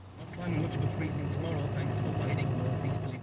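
A Land Rover's engine hums steadily as it is driven, a close, continuous low rumble with road noise that swells in after a quiet start and holds even throughout.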